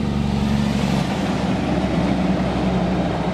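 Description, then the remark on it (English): A loaded logging truck rumbles past at a busy fork in Pukatitiri Road, with a deep, steady engine drone and road noise, loud and holding constant throughout with no voices. “Loaded logging trucks trundle past often.”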